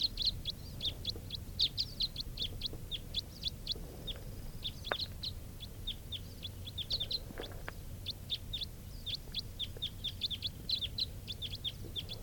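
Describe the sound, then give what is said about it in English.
A steady stream of sharp, high chipping calls, repeated rapidly throughout, from Type 4 crossbills flying in, several birds calling in flight, over a low rumbling background with no voices. “heard it sounds like a crossbill flying in. Type 4 bird.”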